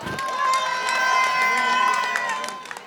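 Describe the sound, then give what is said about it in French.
A sustained burst of crowd noise as an audience applauds two performers after their act, with many voices cheering and whooping over scattered clapping, fairly loud and steady for a few seconds before tapering off. “On peut les applaudir bien fort. S'il vous plaît, du bruit.”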